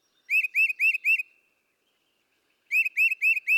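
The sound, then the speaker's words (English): Bird calls ring out clear: a quick series of four rising whistled notes, a pause of silence, then another run of four identical notes. “I like watching their behavior, and I think their sounds are relaxing.”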